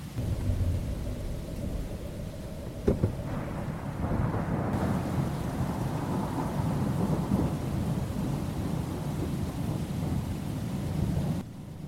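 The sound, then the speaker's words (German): A raging storm with heavy, steady rain and deep rolling thunder, including a sharp crack near the start, loud throughout with no voices. “Die Behörden bitten, alle Bürger zu Hause zu bleiben und sich nicht dem tobenden Sturm auszusetzen.”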